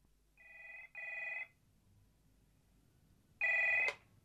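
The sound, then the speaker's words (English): A telephone rings in the classic double-burst pattern, two quick bright trills, a pause, then the next ring beginning. It's loud, with no voices. “She's even invented a boyfriend as keeps ringing her from thigh seas, would you believe?”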